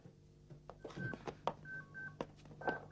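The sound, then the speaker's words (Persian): A telephone rings with short, repeated electronic tones, mixed with scattered clicks and bumps; no one speaks. “کسی تلفن رو جواب نده.”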